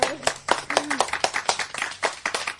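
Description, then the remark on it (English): A small group claps their hands in a brisk, uneven burst of sharp, loud claps that continues steadily for a couple of seconds, with a faint whooping voice briefly rising underneath. “Aftergame, you've officially got the clap.”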